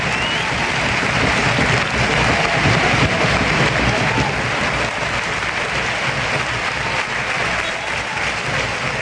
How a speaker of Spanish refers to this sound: Los aplausos a Adrián Arjona. Entra en su lugar Adrián Crespo.